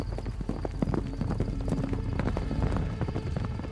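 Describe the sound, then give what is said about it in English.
Horses' hooves clip-clop steadily in a dense, overlapping rhythm, several animals trotting off together at moderate volume with a low rumbling background and no voices. “When the horses left, I think my heart broke a little.”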